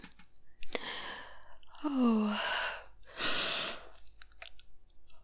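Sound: yawning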